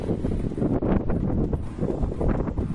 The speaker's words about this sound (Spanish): La Coruña sigue lo que parece un temporal eterno. Ahora es la borrasca Mónica la que trae lluvia, olas y mucho, mucho viento.